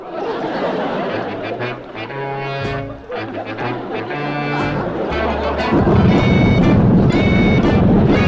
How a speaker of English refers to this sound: I can almost hear those guns. That's my tractor.